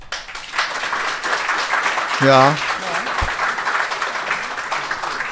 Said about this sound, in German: Ja, das ist höflicher Applaus. Das ist höflicher, das ist Applaus. Höflicher Applaus, muss ja, man sagen.